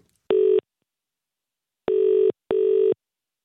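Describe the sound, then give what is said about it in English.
A telephone ringback tone on a call to a party shop in Chesterfield purrs through the line: a single buzzy electronic burst, a pause, then a quick double burst, clear and steady with no voices. “Are you sure this is the right number now?”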